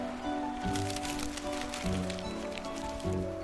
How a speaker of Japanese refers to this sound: まあまあ、手紙開けてみるよ。